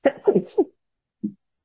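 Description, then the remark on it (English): A sneeze bursts out in a quick, choppy cluster of sharp puffs, followed a moment later by one smaller huff, moderately loud, during a commission meeting. “Bless you.”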